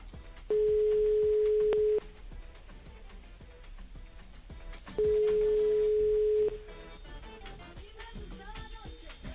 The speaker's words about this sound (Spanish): Está sonando el teléfono, me dicen.